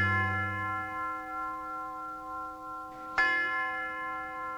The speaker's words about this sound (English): The University of Detroit presents the world's slowest chimes, yep, ringing in Ask the Professor. Speed those up.